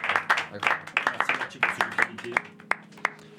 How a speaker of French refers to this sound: Bon, bah, très bonne partie de jeu. J'applaudis déjà.